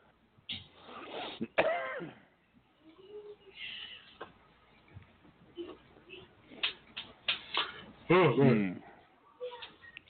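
person yawning

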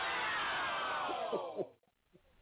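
crowd cheering

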